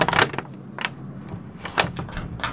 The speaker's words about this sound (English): just open the door!